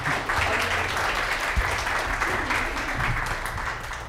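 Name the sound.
audience applause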